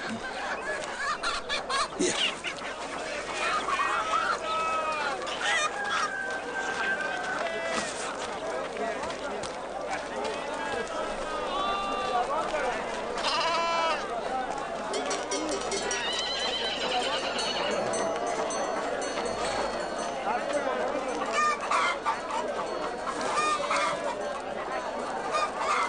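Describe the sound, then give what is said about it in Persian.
Chickens from Balkh cluck and squawk throughout a busy, noisy market, their calls mixing with steady crowd chatter and other animal sounds for the whole stretch, fairly loud. “شما مرغان بلخ قیاس میکنید با مرغان شهرهای دیگر؟”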